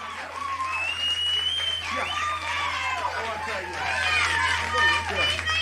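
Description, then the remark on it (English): A large wrestling arena crowd roars and cheers steadily as Roddy Piper escapes Ric Flair's pin, a dense wash of voices with whistles and shouts rising and falling throughout, building louder toward the end. “And the crowd loves it.”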